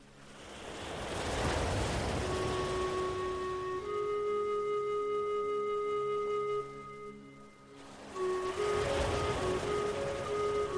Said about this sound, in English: Feel what it would be like to imagine that you are standing barefoot on that beautiful, safe beach, looking out over the gentle ocean waves as they roll towards the sandy shore.